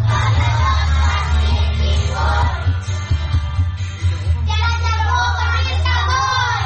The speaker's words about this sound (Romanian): piesa despre președintele rus Vladimir Putin este cântată și de copiii de grădiniță, la începutul orelor